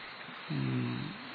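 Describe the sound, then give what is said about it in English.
A person imitates a pained tiger growl, a single sustained low, strained roar of about a second, loud, with no other talking. “No, not sigh. More strength, like a tiger, in pain.”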